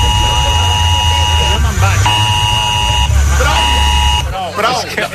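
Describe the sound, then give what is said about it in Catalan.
A loud, steady electronic alarm buzzes in repeated long tones with short breaks, its harsh harmonic drone broken by brief bursts of overlapping chatter before cutting off near the end. “És que aquesta alarma invalida totes les zones sonores que hi hagin al voltant.”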